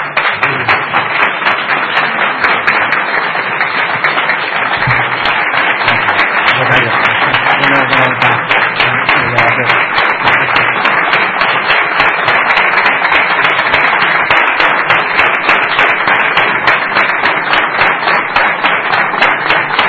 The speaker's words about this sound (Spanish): Aprovechamos esta entrega de este recuerdo para darle un aplauso como él merece.